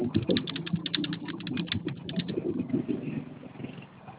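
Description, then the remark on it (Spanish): Rapid, uneven clicking of keys on a keyboard located beneath a box, a flurry of taps over a low steady hum that gradually thins out and fades toward the end. “Que hay un teclado abajo de la caja.”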